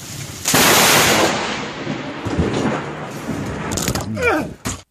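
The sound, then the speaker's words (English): A loud, dense hail clatter starts abruptly after a brief moment and pounds on steadily as a continuous rattling roar, with a short vocal sound rising over it near the end. “Wow, that is truly hail, amazing.”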